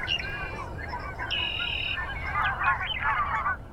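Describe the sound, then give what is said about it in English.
A large flock of several hundred geese on a lake honks continuously, overlapping calls layering into a dense, busy chorus, with a few clearer honks standing out above the mass. “There are a lot of geese on the lake, several hundred of them.”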